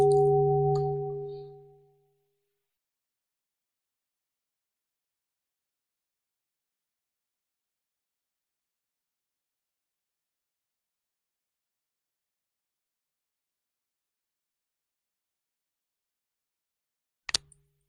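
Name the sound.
bell ringing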